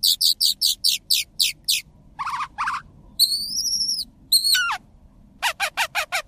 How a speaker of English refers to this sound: Phainopeplas in woodland habitats will mimic species that are only found in the desert.